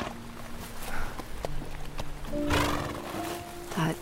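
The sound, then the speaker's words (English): An old, scarred horse shifts about with a few soft hoof clops, then lets out a breathy, rushing snort, and a second shorter snort follows near the end over a low steady hum. “I've only met a few, but normally horses don't even like me.”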